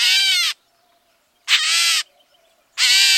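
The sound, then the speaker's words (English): A gray catbird, a mimid related to the mockingbird, gives three harsh, nasal, cat-like mewing calls, each about half a second long, evenly spaced with short silences between, loud with no voices. “It's a cousin of the mockingbird in the bird family known as the mimids. And it does sound a little like a cat.”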